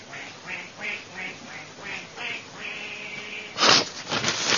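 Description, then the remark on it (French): A duck quacks repeatedly in a steady series of short, nasal calls, moderately loud, ending in a louder, harsher burst of rapid quacks. “Faites rentrer le premier canard, s'il vous plaît.”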